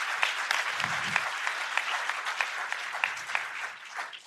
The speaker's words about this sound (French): Est-ce qu'on peut applaudir ce que Jésus fait dans nos vies?